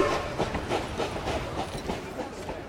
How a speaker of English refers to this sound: The train was already pulling into the station.